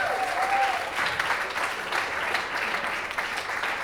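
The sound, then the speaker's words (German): An audience claps steadily for a poet who has just performed a poem, in a dense, sustained round of applause, with a brief whistle near the start and no voices standing out. “Dein Applaus, Till.”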